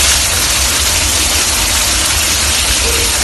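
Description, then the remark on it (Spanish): Milk gushes steadily from an open tap on the milk storage tanks of dairy farmer David López in Teixeiro, A Coruña, Spain, going straight down the drain: a loud, unbroken rushing hiss with a low rumble underneath, holding constant throughout with no voices. “Esto que estás escuchando ahora mismo es el grifo abierto en los tanques de almacenamiento de leche que tiene David López, ganadero en Teixeiro, en La Coruña.”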